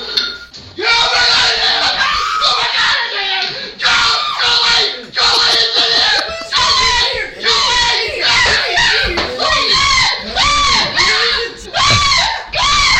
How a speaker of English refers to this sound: I know a lot of yelling in the soundtrack today, but that's all I have for you today.